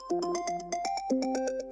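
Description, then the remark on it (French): A telephone rings on Christmas morning with a bright electronic melody, short tonal notes stepping up and down in a quick, steady pattern, clear with no voices. “Le matin de Noël, le téléphone sonne.”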